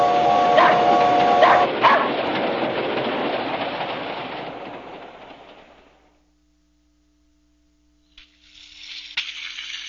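A train rumbles along the rails, loud at first, with a brief tonal whistle near the start, then fades into silence before a soft hiss returns near the end.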